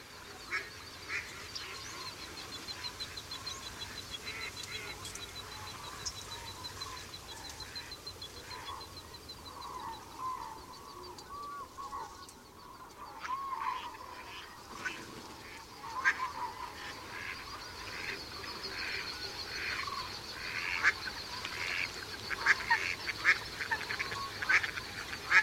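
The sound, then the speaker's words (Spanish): A steady chorus of quacks from female mallards runs throughout, overlaid by sharp, repeated calls of two coots quarrelling among the reeds, growing louder and busier in the second half, with no talking. “Dos fochas disputan a gritos entre los carrizos sobre un horizonte sonoro formado por las risas de las hembras de Ana de Azulón.”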